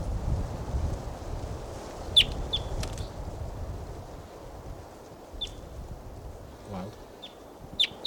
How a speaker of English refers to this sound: And there's a wild bird here.